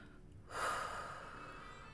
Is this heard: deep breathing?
yes